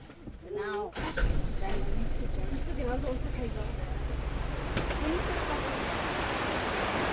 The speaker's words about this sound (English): Now we've moved on just a couple of miles, and we're standing beside a river, a fast-moving river that is pouring garbage, effluent, sewage into the body of the Yamuna itself, inside New Delhi.